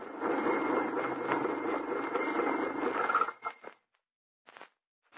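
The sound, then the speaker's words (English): A car pulls up and stops in pine woods, its engine rumbling steadily, then cutting out abruptly, leaving silence broken by a few brief knocks and rustles. “Stop there, wagon, quickly.”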